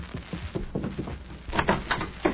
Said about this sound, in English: When they come to the door, Mag, you open it so I'll get the drop on them.